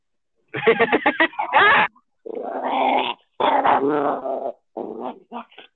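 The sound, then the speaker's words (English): A neutered male dog growls at a person in four grumbling, rumbling bursts separated by brief pauses, its throaty snarls rising and falling with a few whiny edges, no one speaking. “Are you growling at the dog? No, he's growling at me.”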